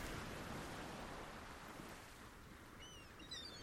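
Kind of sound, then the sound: nature, sea waves and wind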